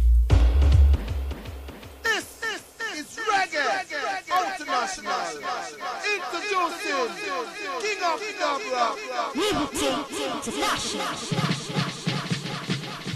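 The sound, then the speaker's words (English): A crowd of people cheering, many voices shouting and whooping over one another in a dense, continuous roar that stays loud throughout and swells again toward the end. “Okay, crowd of people.”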